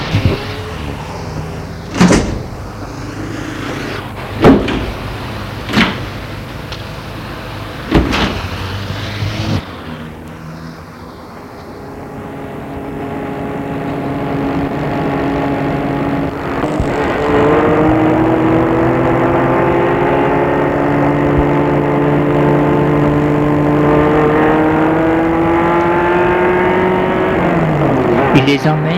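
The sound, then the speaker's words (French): Several sharp clunks of the door of an American convertible car shutting, then an engine turns over and settles into a steady rising hum as the car pulls away and drives on. “Matthew fait le faire entrer dans la voiture américaine décapotable”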